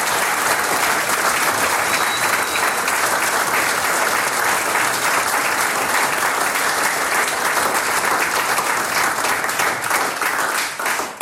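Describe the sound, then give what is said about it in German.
Sustained audience applause in a tavern hall following a concert Ländler performance, a dense steady wash of many hands clapping at full volume for about eleven seconds, with no voices rising above it before it tapers slightly at the end. “Ich glaube, das hat sich noch einmal einen ganz besonderen Applaus verdient.”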